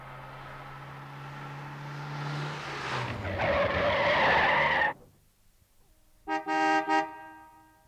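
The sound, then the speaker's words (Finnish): A car drives up to a facility where a guard stands outside, its engine approaching and building, then tires screech loudly as it brakes to a stop. After a brief pause, a car horn honks twice in quick succession. No one speaks. “Tämä ensimmäinen osa alkaa siten, että vartija seisoo laitoksen ulkopuolella, siihen ajaa auto, josta nousee toimittaja Routa.”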